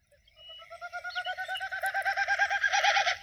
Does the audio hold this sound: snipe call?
yes